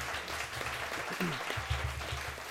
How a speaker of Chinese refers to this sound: 那我请这些朋友们可以一起起立，好不好？我们一起拍手欢迎你第一次来到这个教会，来到这个家庭。好，我们一起拍手欢迎你们。